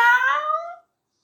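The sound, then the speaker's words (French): A single high-pitched, drawn-out meow made by a human voice mimicking a small kitten. It's clear, lasts under a second, and its pitch glides gently before stopping. “Voilà que la petite boule de poils, qui n'est que la colère du lion, se met à remuer tout doucement, à émettre des petits sons.”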